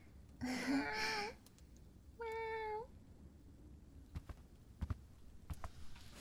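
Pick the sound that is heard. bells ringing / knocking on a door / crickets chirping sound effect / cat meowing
cat meowing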